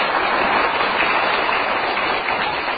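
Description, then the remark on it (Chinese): An audience of the host's longtime listeners claps steadily at his call to applaud, a dense and even wash of many hands that holds at a loud, constant level throughout, with no voices heard over it. “通过台长这个节目准不准呢？大家说，鼓掌。”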